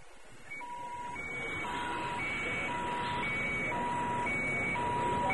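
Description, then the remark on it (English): Warbling sirens at a spaceport signal an all-clear, alternating steadily between a low and a high electronic tone, repeating evenly over a constant broad rumble of background noise, with no voices. “Warbling sirens signaled an all-clear as C-3PO hurried past the open-air launch pads of Ord Mantell's primary spaceport.”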